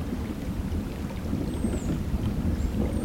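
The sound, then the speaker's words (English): Distant thunder rolls overhead in a deep, continuous low rumble that swells and fades over a few seconds, with a soft hiss like light rain and a couple of faint high whistles above it, heard from a wooden pier over the South Branch Oconto River in the Schwamigan-Nicolay National Forest. “Distant thunder rumbles overhead as I stand on a wooden pier jutting out slightly over the South Branch Oconto River.”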